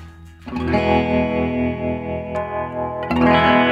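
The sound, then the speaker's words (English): An electric guitar played through an Earthquaker Devices Ghost Echo and a handcrafted Crystal Radio guitar pedal rings out two sustained chords through a pulsing tremolo effect, its volume wavering steadily with a slightly gritty, echoing tone. It plays alone, with no voices. “Listen to that Trello.”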